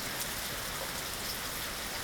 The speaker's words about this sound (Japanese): 雨音はピタッピタッと落ちてくる音や、カタカタと音を立てる葉っぱの音、バシャバシャと音を立てる水たまりの音みたいに、いろんな音が混ざり合ってとても美しい音がするんだよ。